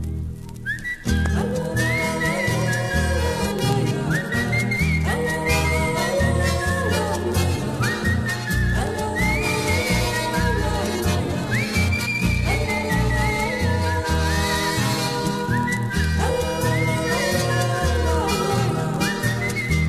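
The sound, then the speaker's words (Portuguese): A whistled country folk verse (a 'coplita campeira') with sliding, ornamented phrases rides over a steady, full instrumental accompaniment with a strong rhythmic bass, playing continuously and loudly from start to finish. “Eu trazia sem fastio, saudando a estrela boieira, uma coplita campeira bem floreada no assobio.”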